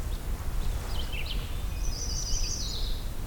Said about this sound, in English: Where's the red? Red-eyed vireo going on and on.